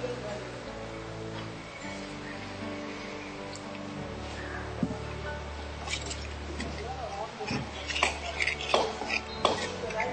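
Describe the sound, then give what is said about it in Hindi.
A spoon scrapes and clinks around a cooking pot, mixing in spices and salt with soft wet squishing and scattered metallic taps that grow busier toward the end, under a low steady background hum. “अब आप इसे मिक्स करिए। जब सब मसालों की भीनी भीनी खुशबू उठने लगे तो इसमें थोड़ा पानी डाल दीजिए।”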